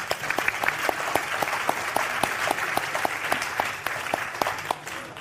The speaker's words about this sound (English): Please give a round of applause for our illustrious panel.